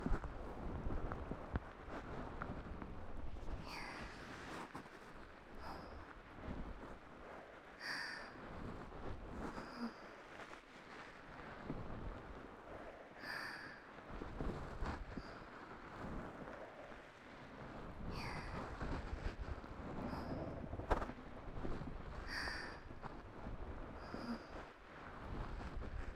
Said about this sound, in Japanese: 本当にいい雨の音。傘持ってきてよかったな。